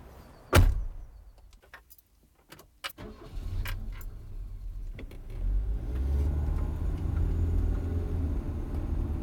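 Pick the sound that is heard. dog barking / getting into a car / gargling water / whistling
getting into a car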